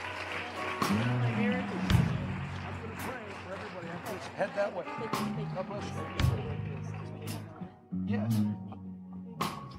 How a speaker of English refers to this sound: You can head that way. Give them a big hand clap as they head that way. God bless you.